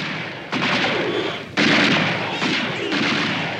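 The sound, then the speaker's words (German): Loud, dense gunfire from a shootout between armed miners and a convoy with deputies, over 1000 shots in 15 minutes: sharp bursts break in at intervals over a continuous roar of shots and echoing noise, overwhelming, with no voices heard. “Von welcher Seite der erste Schuss abgefeuert wurde, ist nicht überliefert. Doch es folgen weitere.”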